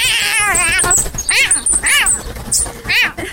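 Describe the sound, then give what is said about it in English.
A cat caterwauls loudly: one long, warbling yowl, then several shorter wailing cries in quick succession, with no talking. “Did the canary kill the cat?”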